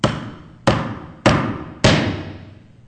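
Four sharp, loud hammer strikes on a nail land at a steady, unhurried pace, each ringing out briefly before the next blow. No voices, just close, solid impacts.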